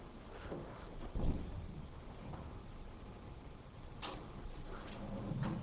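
A door being opened somewhere in the room, fairly quiet, with a muffled clunk followed by a brief scrape a few seconds later over steady background noise.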